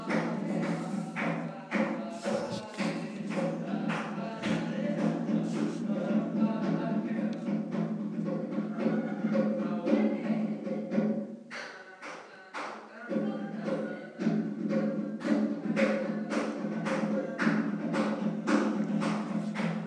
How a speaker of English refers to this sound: I think they are drums, you know.